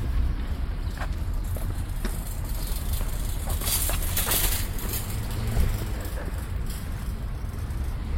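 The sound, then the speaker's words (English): Footsteps of a person walking into a grocery store at a steady pace, the soft impacts heard over a constant low rumble of traffic or wind outdoors. No one speaks. “Okay, so I'm walking into this grocery store.”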